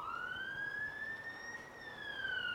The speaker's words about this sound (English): We hear that siren.